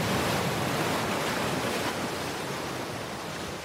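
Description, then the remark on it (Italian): A steady, full rush of sea surf at Bagnoli washes continuously with no voices, the broad roar of waves swelling and slowly easing toward the end, loud. “Lasciamo Marcello Anselmo e andiamo nuovamente giù verso il mare.”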